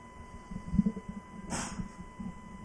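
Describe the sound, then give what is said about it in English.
A single sharp, hissy sneeze bursts out partway through a live baseball game broadcast, brief and breathy, over a steady electrical hum and low background rumble. “Bless you there. That's a big one.”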